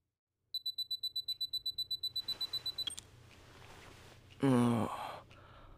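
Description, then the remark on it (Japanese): A timer being set for a basic training session beeps in a fast, steady series of about twenty high electronic pips for a couple of seconds, then stops. A soft click follows, and later a breathy sigh-like exhale amid quiet background noise. “ではタイマーをセットしますね。”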